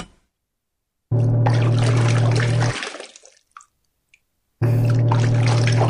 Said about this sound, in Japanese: それでは、今度こそ、蓋を閉めて、ヒーローくんを、何も頭の中に入ってない、おバカさんに生まれ変わらせる、悪の組織の洗濯機のスイッチを、入れちゃいまーす。ポチッと。